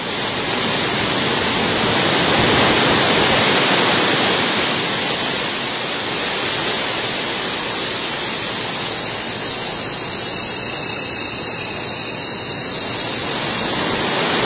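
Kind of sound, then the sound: nature, rain falling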